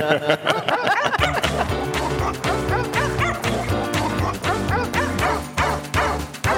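Loud dog barks and high yips repeat in a steady rhythm over a dense, continuous musical backing, with no speech.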